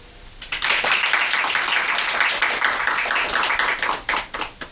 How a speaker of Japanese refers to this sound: ちょっとこちらも会場の皆さんの協力が必要ですね。私がカッコーンって言ったら拍手をお願いします。カッコーン。